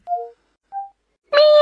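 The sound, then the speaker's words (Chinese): Two short, thin whistle-like tones are followed by a voice making a loud, drawn-out meow in imitation of a cat, with a rich, wailing pitch, made by the voice assistant Xiaona when asked to whistle and then to imitate a cat. “学个猫叫。”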